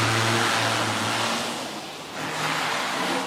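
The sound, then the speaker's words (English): A white test car reverses out of a garage and screeches out onto the roads of Singapore, its low engine hum and revving under a loud, steady rush of tire noise that dips briefly midway before rising again. No one speaks. “And a white test car reverses. and screeches its way out onto the roads of Singapore.”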